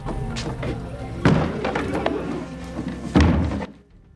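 Wooden shutters are slammed shut twice by Scrooge, two loud wooden bangs about two seconds apart over a low, busy background rumble, with the second slam landing hardest before things fall quiet.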